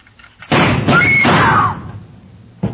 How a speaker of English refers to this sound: When Susan snapped the spring lock to open the door, the gun outside opened up. The first slug caught her in the left shoulder, spinning her out of the way of the rest of them.